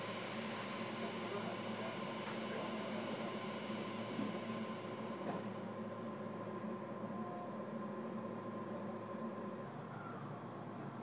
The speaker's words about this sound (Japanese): ご乗車ありがとうございます。最終電車、今里行きです。